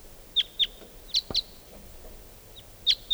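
wild bird calling

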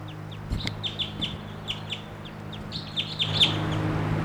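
wild bird calling

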